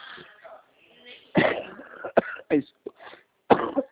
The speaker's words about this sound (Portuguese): Desculpa, tosse.